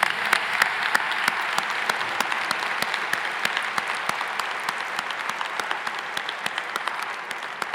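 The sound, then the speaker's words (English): Sustained applause from a large audience at a graduation ceremony, honouring the graduating class, a dense, steady wash of clapping with sharp individual claps standing out throughout, holding an even loudness with no voices over it. “So would everyone please join me in applauding the achievements and generosity and dedication of this wonderful class.”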